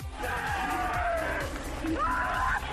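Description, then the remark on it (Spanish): An Italian cyclist cries and screams after winning the Paris-Roubaix race, in long, strained wails that rise and fall, loud, over a constant roar of crowd noise. “Bueno, seguimos con ruedas, pero en esta no hay motor, en esta lo que hay es espectáculo, y sobre todo hay un tío, un italiano que ayer ganó la Paris-Roubaix y lloraba así.”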